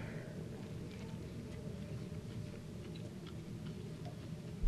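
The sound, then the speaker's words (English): Soft, irregular crunching of someone chewing a crunchy Greek sandwich with feta, pepperoncini, tomato and cucumber, faint clicks and crackles scattered over a steady low background hum, with no one speaking. “Just get the crunch from them.”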